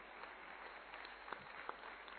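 An audience applauds a question sent in by its youngest member, aged 8, in a steady, dense wash of clapping that holds at an even, fairly soft level for a couple of seconds, with a few sharper claps standing out and no voices.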